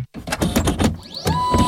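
A printer whirs and clatters, with rapid rhythmic mechanical clicks and rising motor whines as the print head shuttles back and forth; no one speaks.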